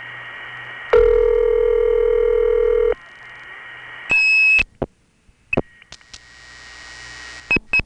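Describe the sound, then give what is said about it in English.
Telephone line tones on a call to the Virgin Islands through a tandem: a loud steady tone holds for about two seconds, then a sharp high trunk whistle bursts out to whistle off the trunk, followed by a quick run of short, clipped multi-frequency dialing beeps over faint line hiss. “Let me whistle it off and try SFing something.”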